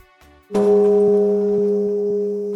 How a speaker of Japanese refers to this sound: 大変です。つい20秒ほど前のことですが、除夜の鐘を覆うように作られていた防音壁が大きな音を立てて崩れ去ってしまいました。 どうやら除夜の鐘が出す音の振動に壁が耐えられなかったとみられます。